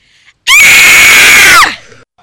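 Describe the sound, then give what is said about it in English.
A woman lets out one loud, piercing scream lasting about a second, held steady before trailing downward at the end, with near silence on either side. “that was …. We have to go back now. No, it wasn't. Just keep walking. Jess, yes it was. I know her scream.”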